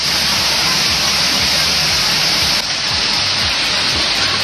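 heavy rain falling

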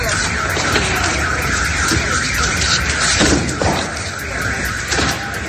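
air raid alarm sirens

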